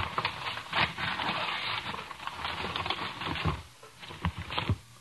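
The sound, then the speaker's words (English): Continuous crinkling and rustling of wrapping paper being pulled and torn off a boxed present, busy, irregular crackles that keep going for several seconds with no one talking. “You can take the wrapping paper off, but you can't open the box.”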